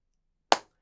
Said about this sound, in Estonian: lööge seda plaksu veits vaiksemalt lähme siis vaikse plaksu